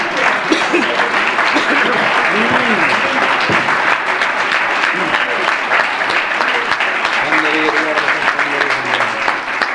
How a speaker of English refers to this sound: Hallelujah. Somebody wants to clap their hands.